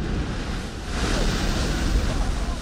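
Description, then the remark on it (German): The Strokkur geyser in Iceland erupting, boiling water shooting up with a steady, hissing roaring rush that swells slightly midway and stays loud for the whole few seconds; it erupts about every 8 minutes. “Wenn kochendes Wasser eruptionsartig in die Höhe schießt, dann sind Touristen nicht weit. Der Geysir Strokkur etwa spuckt alle 8 Minuten.”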